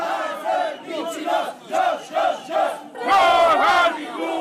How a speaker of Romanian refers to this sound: Oamenii s-au adunat și au început să strige